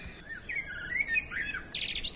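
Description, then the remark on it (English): A blackbird sings a short run of fluty, warbling phrases that rise and fall, ending in a brighter burst of high notes, with no voices over it. “And so, to the sound of War Blackbird”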